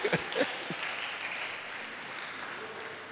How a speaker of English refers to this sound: Stand on your feet. Yes, if you're happy, clap. If you're hungry, don't clap.